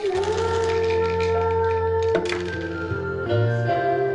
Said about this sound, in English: … rattles the dice and throws them onto the table with a laugh.